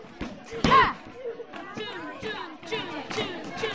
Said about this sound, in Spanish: La técnica aquí se vuelve un poquito violenta. Hay que hacer que la masa esté bien compacta y, claro, a veces es casi una clase de boxeo. ¿Qué técnica es esta exactamente? ¡La de puñetazos! ¡La de tu ira contra el roscón!